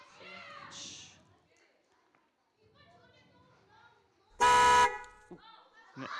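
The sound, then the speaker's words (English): A single loud car horn honk blares for about half a second, standing out sharply against softer background chatter and voices before and after it. “Horn. Was a horn.”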